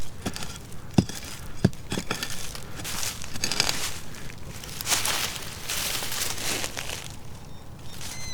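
A hand pickaxe digs into soil: a few sharp, thudding strikes early on, then irregular gritty scraping and crumbling of earth, moderately loud, with no one speaking.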